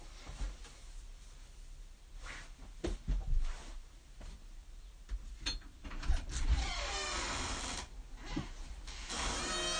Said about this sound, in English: Go over to the door. She has to pull it up, so.